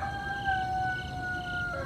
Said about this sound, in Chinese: 有一天晚上，他们正在睡觉的时候，突然祖逖听到了公鸡打鸣的声音。